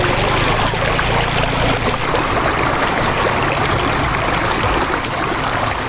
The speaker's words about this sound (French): Au quartier Rimkieta de la ville de Ouagadougou. Sur la voie ralliant le quartier voisin Tuissin, les bruits de motos, de tricycles et de voitures s'entremêlent devant un pont à peine visible, englouti par les eaux de pluie.